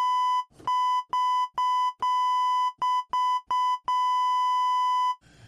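A doorbell-style electronic buzzer pressed over and over, about nine bright, steady-pitched tones of uneven length in quick succession, ending with one long held ring. No one speaks.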